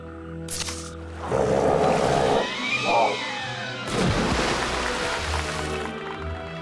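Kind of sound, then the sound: animal, elephants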